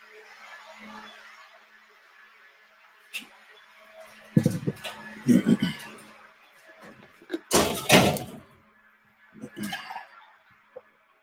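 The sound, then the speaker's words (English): A door is pushed shut with a few knocks and rattles, ending in a loud thump, over a steady mechanical hum from a machine that has started up and faint murmuring voices. “So one of the problems, maybe just shut the door.”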